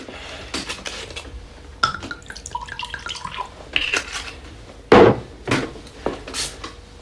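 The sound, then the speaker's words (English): Two glass bottles clink and knock as they are set down on a table, followed by a sharp hiss and fizz as a seated man opens one of them. No talking. “Without turning on the lights, he plonks two bottles down on the table, sits and opens one of them.”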